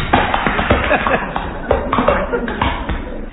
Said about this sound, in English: That's slapping hands on naked stomach.